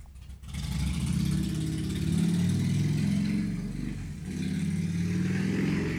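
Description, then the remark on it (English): A loud motorcycle engine rumbles, its deep throaty pitch rising and falling as it revs, dipping briefly before surging again. No voices are heard. “That guy on a motorcycle”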